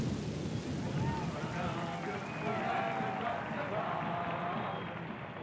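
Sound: thunderstorm with rain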